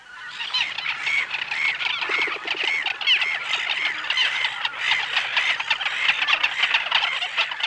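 A dense, agitated chorus of gulls screaming as they mob an Arctic fox creeping up on their flightless chicks among rocks on an island, many harsh overlapping loud cries continuing without a break for the whole stretch, with no voices.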